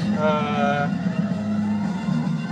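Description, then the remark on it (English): A bridge patrol vehicle's engine rumbles steadily as it works its way up to the edge of a tunnel, with a short, bright siren-like warning tone sounding in the first second before fading into the continuous low drone. “There appears to be a bridge patrol vehicle working its way up to the edge of this tunnel.”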